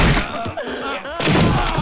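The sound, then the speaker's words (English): A heavy, noisy crash of a man being knocked into an open grave at a funeral, his body thudding down, then a short groaning voice, then another rough, scraping crash of impact. “He knocks Mr. Chauncey into an open grave.”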